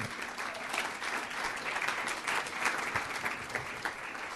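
An audience applauds steadily for several seconds, a dense wash of many hands clapping at an even, moderate loudness with no voices rising above it.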